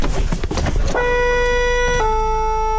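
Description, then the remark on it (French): About a second of rumbling engine noise, then the horn of a volunteer fire brigade's emergency truck in a Picardy village blares loud in one long sustained tone. Its pitch drops once partway through, and nobody speaks. “Johan nous emmène dans le camion d'intervention”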